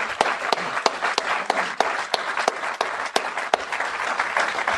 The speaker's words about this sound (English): Let's give all of our presenters a big round of applause tonight.